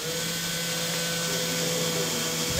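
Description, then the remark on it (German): Construction work in a museum in Lüneburg, Germany, still a building site before its opening: a power tool or machine whirs and whines steadily, a continuous droning hum with no pauses and no voices. “Noch ist das Museum eine Baustelle.”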